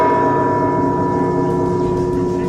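Church bells in Mexico ring loudly and continuously in farewell to the late Pope Francis, their overlapping tones blending into a sustained, resonant peal that hums without pause throughout, with no voices present.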